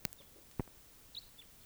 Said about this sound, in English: Maybe just one bird. I don't see the bird.